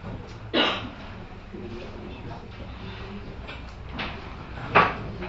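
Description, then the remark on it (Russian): An extra table and chairs are moved into place as people take free seats: two sharp wooden knocks and bumps with quieter scraping between them, set against a low murmur of background voices. “Садитесь на свободные места. Сейчас я еще один столик организую.”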